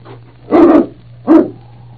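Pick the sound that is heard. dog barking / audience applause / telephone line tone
dog barking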